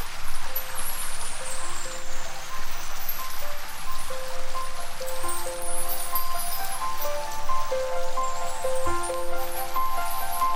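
Steady, hissing rain pours continuously throughout, while soft sustained musical tones drift over it, like a gentle song intro layered on the rainfall. No one speaks.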